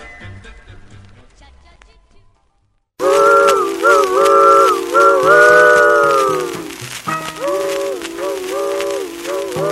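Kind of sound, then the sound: vehicle, steam train engine whistle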